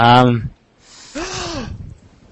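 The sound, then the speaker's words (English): A short spoken exclamation, then a breathy, dramatic gasp with a rising and falling voiced pitch, fairly loud, followed by quiet room noise. “What? Gasp.”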